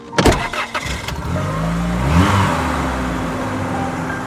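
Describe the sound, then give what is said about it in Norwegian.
A few sharp clunks, then a car engine fires up and revs higher, its pitch climbing before settling into a steady drone as the vehicle pulls away, driven by a journalist heading toward Fjelltunvegen after a landslide there. No voices. “og han kaster seg I bilen og kjører mot fjelltunvegen, bare basert på det kollegaen har fortalt.”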